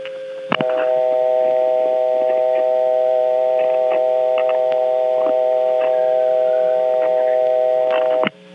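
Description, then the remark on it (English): A steady telephone dial tone from a phone at the Tidewater Telephone Company's headquarters office in Warsaw hums continuously for about eight seconds, its layered pitches carrying faint overtones, with small clicks at the start and end. “This office has a really nice-sounding dial tone.”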